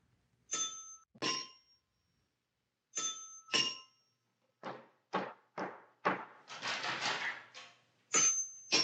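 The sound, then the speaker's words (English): A doorbell rings in two quick ding-dong pairs, then erupts into a rapid, insistent run of harsh rings as someone leans on the bell, before chiming once more. It is fairly loud, with no voices. “And your tension mounts until finally you hear the doorbell.”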